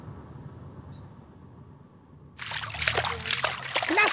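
A quiet, low background gives way partway through to loud splashing in water, a run of irregular sloshes and splatters that keeps going to the end.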